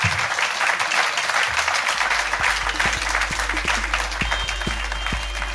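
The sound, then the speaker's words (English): Sustained audience applause for guest Ben Shepherd at the end of a show, a dense wash of many hands clapping steadily at a loud, even level, with a low rumble underneath and a few louder individual claps standing out. “Ladies and gentlemen, please give a massive round of applause to the incredible Ben Shepherd!”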